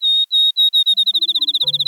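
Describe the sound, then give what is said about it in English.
A field sparrow sings its sweet, high whistled song: a few slow, clear notes that speed up into a rapid accelerating trill, like a bouncing ball, with a low hum entering at the very end. “Field sparrows aren't as common today as they were in Aldo Leopold's day.”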